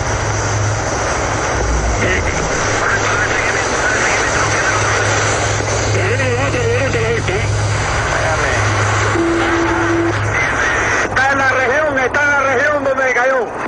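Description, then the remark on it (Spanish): A light aircraft's propeller engine drones steadily and loudly throughout, a constant low hum with a high whine, as the plane flies near a boat with a second light aircraft also in the air, while voices talk over it. “La avioneta ya llegó cerca de la lancha. Tenemos otra avioneta.”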